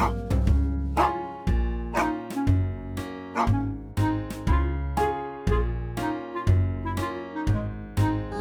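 A dog barks over and over in quick, regular yaps, mixed over a bouncy musical backing with steady bass and percussion, no talking.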